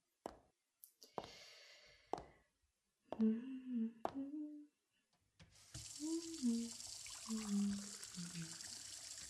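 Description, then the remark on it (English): A few sharp clicks and knocks, then a tap turns on and water runs steadily into a glass, a hissing flow, as water is fetched to go with aspirin. Low murmuring or groaning vocal sounds rise over it. “Here, let me get some water and aspirin for you.”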